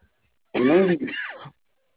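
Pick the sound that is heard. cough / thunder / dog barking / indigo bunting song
cough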